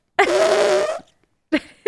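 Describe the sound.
A voice makes a long, buzzing raspberry imitating a fart for nearly a second, then a short vocal burst follows after a brief pause. Fairly loud.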